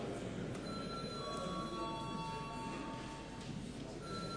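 A parliament voting bell, called for before a vote on a tax bill, rings steadily as a thin, sustained electronic tone, moderately loud, over a constant murmur of room noise, with no speech.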